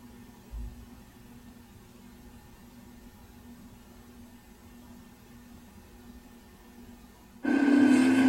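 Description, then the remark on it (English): A steady, low mechanical hum of machines drones throughout in the robotics lab in Wing B of the Technological Institute, at the Northwestern Robotics Research Center, with no voices, until a louder, buzzing machine suddenly kicks in near the end. “Metal parts cover the white desk in Wing B of the Technological Institute as machines hum in the background.”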